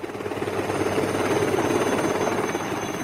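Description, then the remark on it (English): A search team's helicopter drones loudly and steadily overhead, its rotor churning in a continuous rumbling wash with no voices. “A search team in a helicopter.”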